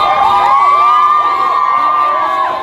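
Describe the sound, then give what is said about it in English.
A protest crowd in Denver, largely young people with many DPS students, chanting and cheering together, a loud, steady wash of overlapping high-pitched shouts that holds without a break for a few seconds. “when the protests were largely led by young people and a strong showing from DPS students.”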